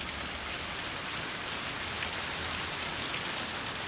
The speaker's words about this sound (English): Rain pours down on the motionless bodies of Tom, Elman, and Lucy.